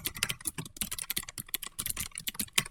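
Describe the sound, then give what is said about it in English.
Rapid, uneven clatter of keys on a mechanical keyboard, a steady stream of sharp, bright clicks with no voices, lasting a few seconds at moderate loudness. “I'll just start clicking on my mechanical keyboard in front of me to make it sound like I'm a hacker.”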